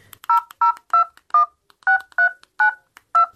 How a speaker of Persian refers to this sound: خو باش که می نمبر دایل کنم.